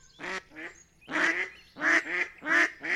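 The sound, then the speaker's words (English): Ducks quack and geese honk in a loud, nasal series of about seven calls, coming in loose pairs with short gaps between them and no one talking. “Now that he's a toddler, we watch raptors soar over parks and swans, ducks and geese paddle across lakes.”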